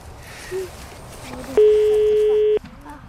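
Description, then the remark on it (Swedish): A single steady, loud telephone ringing tone sounds for about a second over quiet outdoor background, the ringback heard while an outgoing call to Skogsjocke connects. “Vi ringer till Skogsjocke.”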